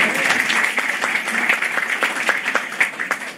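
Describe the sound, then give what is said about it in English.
An audience applauds steadily for a few seconds to acknowledge new board members. It is a dense wash of many hands clapping at once, with sharper individual claps popping out irregularly, fairly loud and sustained without any talking. “Jenny Hung Bennett, she's not here, but you can clap for her.”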